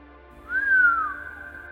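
A single low human whistle, rising briefly and then sliding downward for about half a second, clear over a faint steady hum, with no talking, let out by someone leaning over for a look.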